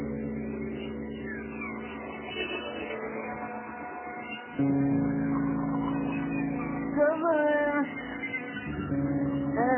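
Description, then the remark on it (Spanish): A female cat meows several times, drawn-out tonal cries rising and falling over a steady low hum, moderately loud, with no talking. “La gata está contenta.”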